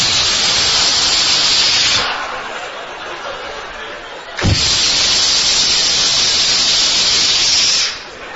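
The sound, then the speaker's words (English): A voice makes long, breathy hissing sounds imitating milk squirting from a cow's udder during hand milking: a sustained spray-like hiss, a brief pause and a sharp click, then another loud, drawn-out hiss. “It was like psst, psst, psst.”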